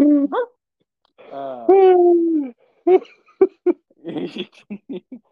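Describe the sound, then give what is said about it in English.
A man imitates a dog with his voice: a couple of yelps, a long drawn-out whining howl, then a quick string of short, loud barks and yips. “It's like every time that fucking guy did that barking noise in that movie.”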